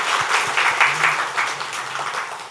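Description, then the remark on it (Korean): A large crowd applauds together in thanks to those who served on a two-day pilgrimage, a dense, steady wash of many hands clapping at once, sustained loudly for a couple of seconds without anyone speaking. “우리 서로 잘했다고 하는 감사도 박수 한번 하겠습니다.”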